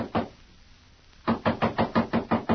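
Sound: knocking on a door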